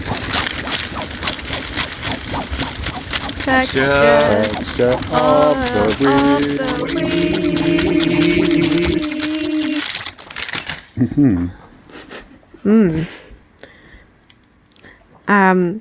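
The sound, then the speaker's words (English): Dense crinkling and rustling of paper for about ten seconds, with a voice sounding over part of it, followed by brief talking once the rustling stops. “Don't have any instruments. I've got some rusting paper.”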